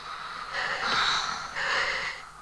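Two loud, ragged breaths, each a rough airy rush lasting under a second, like someone panting heavily in fear while hiding in a wardrobe. No one speaks.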